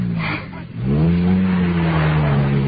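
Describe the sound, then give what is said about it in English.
A racing car engine of racing driver Ladislas Malinowski, a former world champion, revs hard, a deep growl that dips for a moment and then rises into a loud, steady droning roar that holds to the end. No one speaks. “He had a bad crash last year. He was quite badly injured, but I believe he's driving again now.”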